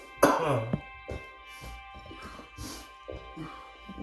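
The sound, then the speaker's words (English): A loud, strained retching burst opens, followed by a string of harsh, choppy coughs and gagging noises spread unevenly over several seconds, from a person coughing after dabbing. “So I'm like fucking gagging while I'm coughing every time.”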